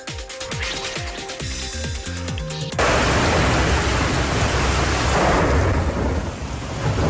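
A short musical passage cuts abruptly to a loud, steady roar of heavy rain pouring down in a thunderstorm in Platja d'Aro, Baix Empordà, Catalonia. The rain floods the main avenues and streets. The roar is dense and continues unbroken to the end with no voices.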